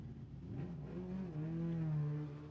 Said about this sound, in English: You don't have to have a fucking bike that loud, my guy. I have a motorcycle, and people are like, you should make it louder.